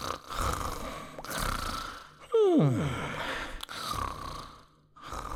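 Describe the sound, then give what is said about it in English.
Snoring of a napping dolphin echoing around a stony cave: slow, rhythmic breathy rumbles repeating about every second, broken by one loud squeaky whistle that slides sharply downward. No voices. “In just a few moments, the dolphin snores echoed around the stony cave.”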